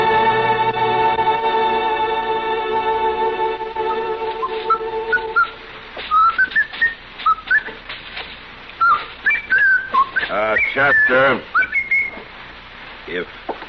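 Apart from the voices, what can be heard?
person whistling a tune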